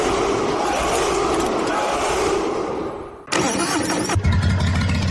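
A loud, dense roar of noise fills the first few seconds, then cuts off abruptly as an engine turns over and catches, settling into a low, steady idle rumble.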